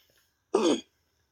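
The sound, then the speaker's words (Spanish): One short, harsh barking cough, a lingering cough left over from a COVID infection, bursts out loud and rough, with quiet before and after it and no talking. “Tu tos culia de perro te quedó desde que te viste COVID.”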